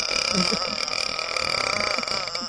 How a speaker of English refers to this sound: Us burping.